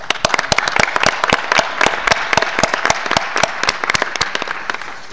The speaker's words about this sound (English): I think this also earns an applause.